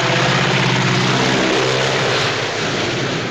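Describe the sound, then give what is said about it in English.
A propeller-driven biplane roars loudly overhead, descending and swooping low over a highway with its wheels passing just feet above a man on the ground, its droning engine filling the air, the pitch sliding lower as it sweeps past and begins to pull away. “With an intrigued gaze, Roger watches the propeller-driven biplane descend gently as it approaches him dead on.”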